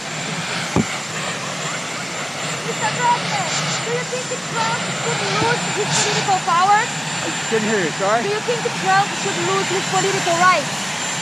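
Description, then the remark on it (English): A helicopter's engine and rotors roar loudly and steadily throughout as Joe Biden disembarks and is asked about Trump, with voices talking indistinctly beneath the continuous mechanical drone. “Joe Biden, I think, was asked about Trump as he disembarks the helicopter.”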